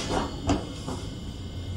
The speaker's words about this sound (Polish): Joan wybiera kilka ubrań i zamyka szufladę.